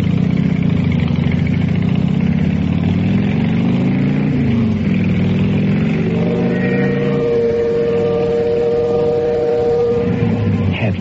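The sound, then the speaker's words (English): A motorcycle engine rumbles loudly and steadily throughout, idling low before the pitch wavers and climbs into a higher revving drone as it rides off. No one speaks. “how I felt when I pulled up in front of the Lace house, helped her off the bike, and led her up to the front door”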